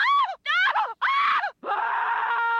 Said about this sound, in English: Next, we've got three screams from Scream 3.